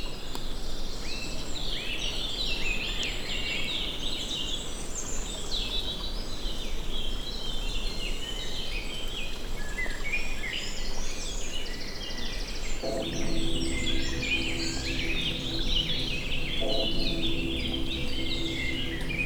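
Early-morning chorus in a forest in the Creuse, France, under mixed cloud and sun: many birds chirping and warbling continuously, dense high-pitched calls overlapping throughout, with a lower, steady tonal call joining in for the final stretch. No one speaks.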